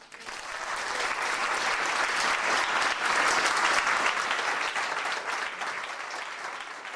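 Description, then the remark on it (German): Sustained standing applause from nearly 180 guests for Irina Gruschewaja, named Woman of Europe 2011, a dense, steady patter of many hands clapping that swells in the first second and holds strong for the full seven seconds, easing only slightly at the end. “Knapp 180 Gäste erhoben sich mit lang anhaltendem Beifall für Irina Gruschewaja.”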